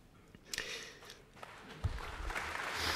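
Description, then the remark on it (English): A concert audience begins to applaud as the orchestra leader, Helena Wood, takes her place at the front of the orchestra: scattered claps and rustling at first, then a soft, crackling wash of clapping that thickens and grows toward the end. “Applause, therefore, the leader of the orchestra, Helena Wood, taking her place at the front of the orchestra.”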